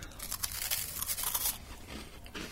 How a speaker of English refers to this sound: So Max is going for the munch. Sounded very crunchy.